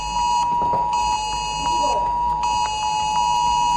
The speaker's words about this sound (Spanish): Se trata de la alarma del sistema ESALER procedente de la red de alerta nacional. En esta ocasión se les ha avisado de que se trataba tan solo de un simulacro